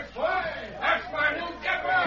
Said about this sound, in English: How they're cheering for you, Dave. Gee, the sheriff's told them all about you. You mean the people of Wayne are cheering for me? Just listen to them.